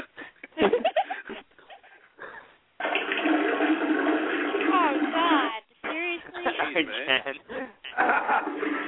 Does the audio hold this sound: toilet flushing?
yes